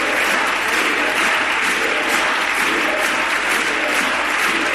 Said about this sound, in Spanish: Lo visibilizaban esta mañana interrumpiendo el pleno durante 3 minutos para reclamar libertad con aplausos.